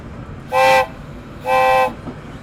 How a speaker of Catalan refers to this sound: Ostres, i el tren! Me'n descuidava.